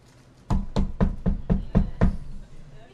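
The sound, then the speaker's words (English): A quick series of seven evenly spaced knocks on a door, dull and thudding with a steady rhythm, followed by a brief quiet tail. “Ding dong, right? Hello, right? Those kind of noises.”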